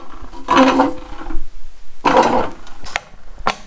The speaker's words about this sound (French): Donc là, c'est vraiment, c'est comme un piston un peu qu'on va pousser dans une espèce de moule. Et puis, on va sortir le colombin.